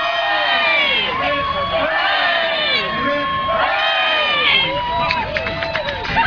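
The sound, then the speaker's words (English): A crowd cheers loudly and steadily for several seconds, a cheer to save the children, many overlapping voices shouting and whooping together in rising and falling waves, with no pause in the noise. “Let's have a cheer to save the children.”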